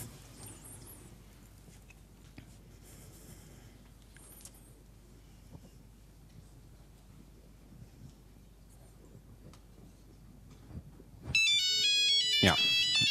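After a long stretch of quiet background noise, a mobile phone suddenly starts ringing near the end, a loud electronic ringtone with a bright, warbling melodic pattern, as the phone becomes reachable again once a denial-of-service jamming attack on it is stopped.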